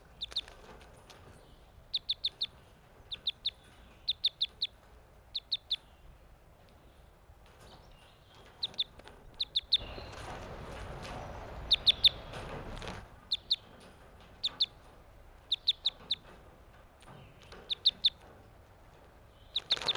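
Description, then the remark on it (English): Newly captive crossbills, caught on May 31st, give sharp, high chirping calls in quick clusters of two or three, repeating throughout, with a burst of wing-flapping and rustling in the middle. One is a male whose bill crosses to the left. No one speaks. “These are the new captives I caught today, May 31st. It looks like the male with the bill that crosses to the...”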